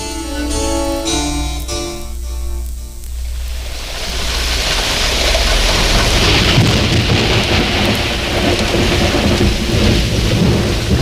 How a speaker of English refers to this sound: This is what the growers of wine in the Bordeaux area fear most: a sudden heavy storm in autumn, and especially if the rain turns to ice.